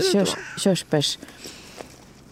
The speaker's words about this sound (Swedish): Körsbärsträd och kråkan. Kraxar.